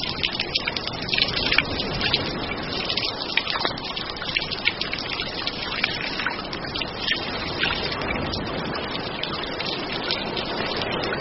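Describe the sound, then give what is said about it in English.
A steady, loud rush of falling water pours down continuously like a strong shower, with spattering droplets mixed in and no voices throughout; a penguin stands under it at the top of a chimney climb as his own power shower. “And at the top, all any penguin requires, his own private power shower.”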